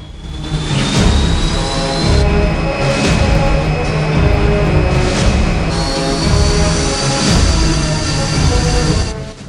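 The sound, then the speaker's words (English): A loud, steady jet engine roar with a high whine and rumbling low end, sustained throughout as a stealth plane's engines are fired up and it rolls slowly out of a hangar. “Mitchell sits up as Turner fires up the plane's engines and drives it slowly out of the hangar.”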